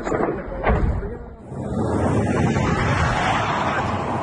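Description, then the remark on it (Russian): A broad, rushing roar swells after a brief dip and holds steady and loud as a fighter jet flies past overhead, with faint voices mixed in. “А есть истребитель, а вон он летит, вон он.”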